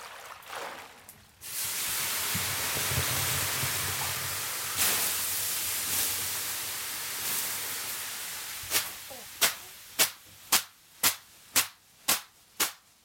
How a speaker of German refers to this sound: Das klingt interessant, das Zischen, Aufguss, klar.